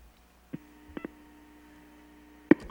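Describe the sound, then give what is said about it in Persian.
A steady telephone line tone hums faintly throughout as a listener's call to a radio phone-in show is answered, interrupted by a few sharp clicks, one early, a quick pair near the middle, and a louder click at the end as the line picks up. “آره تلفن ها جواب بده.”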